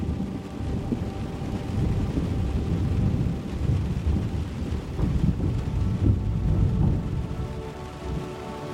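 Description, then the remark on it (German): Steady rain falls at a train station under its large roof, a continuous soft hiss over a deep, rumbling low end that swells slightly midway, with no voices. “Als du aussteigst, hörst du die sanfte Geräuschkulisse des Regens.”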